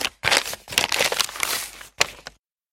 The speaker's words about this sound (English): Dad carefully refolded the map and put it into his other pocket.